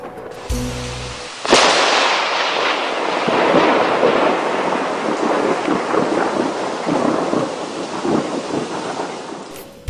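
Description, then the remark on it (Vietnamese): A loud crack of thunder bursts in, then rumbles on beneath a steady, heavy downpour of rain from a large storm over a tent campsite in Oregon, filling the rest of the scene; no one speaks. “vì trận bão quá lớn nên hôm nay chúng tôi tạm nghỉ.”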